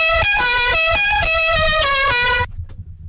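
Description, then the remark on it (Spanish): Car horns honk in a traffic jam, a loud, blaring chorus of overlapping tones pulsing in short repeated blasts for about two and a half seconds before cutting off to a low rumble. “Hoy en el tráfico el mismo atasco de siempre.”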